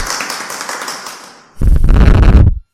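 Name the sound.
clapping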